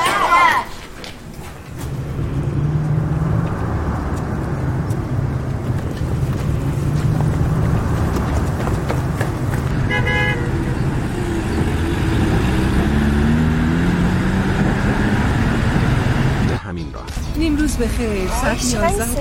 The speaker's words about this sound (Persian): ساعت 11 این موقع روز باید انقدر ترافیک باشه